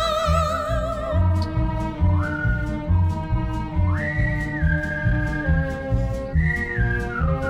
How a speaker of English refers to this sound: Understand why it was he whistled all the day. When they kissed and said goodnight, as she waved him out of sight, she could hear that whistle all